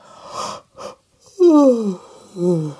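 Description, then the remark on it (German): A voice imitates a tired woman's long, drawn-out yawn: a breathy intake, then a loud descending vocal sigh, followed by a second shorter groaning exhale, clear. “Frau Usebuse gähnt wieder. Sie ist müde.”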